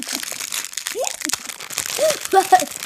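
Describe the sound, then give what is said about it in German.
A thin, transparent plastic fortune cookie wrapper crinkles and rustles for a few seconds as it is pulled open, with brief murmured voice sounds near the end. “Sie hatte eine Tüte aufgemacht. Ist komisch, ne? Das sind so durchsichtige Tüten.”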